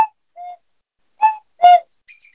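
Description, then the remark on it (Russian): A small shvi flute imitating birdsong: a few short, bright chirps and a warbling trill separated by brief pauses, played clear with no voices. “Они изображают пение птиц.”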